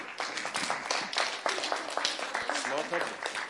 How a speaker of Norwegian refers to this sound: Stor applaus!